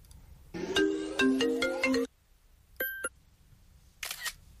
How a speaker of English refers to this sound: Hey, bro, you got a phone call. Hey, bro, you got a phone call. Hey, bro, you got a phone call. That's actually my favorite audio.